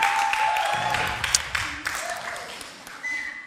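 An audience applauds the band, a dense, steady wash of many hands clapping that gradually thins out, with a few high whistle-like tones and voices mixed in.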